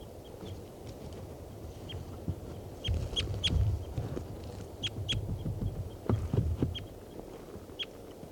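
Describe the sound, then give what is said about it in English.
A caged bird, bird number 387, calls in a string of short, sharp, high-pitched notes, irregularly spaced and fairly loud, over a steady low rumble of background noise. No one speaks. “Well, this is 387 calling here.”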